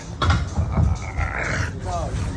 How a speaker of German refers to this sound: That's a fit boy. Man hört ihn hier schwer schnaufen.